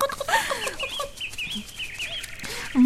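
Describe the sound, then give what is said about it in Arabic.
A hen clucks in a quick series of short calls, with a few higher squawks mixed in and faint bird chirps in the background. “نعم، إلى اللقاء إلى اللقاء يا دجاجة.”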